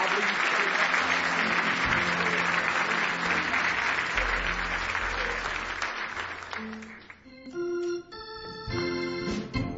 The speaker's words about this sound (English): Somebody say hallelujah. Give him one more big hand clap of praise if you love him.